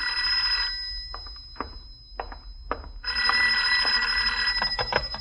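A telephone bell rings in two bright, rattling metallic bursts, a short one and then a longer one after a pause of a couple of seconds, fairly loud with no voices.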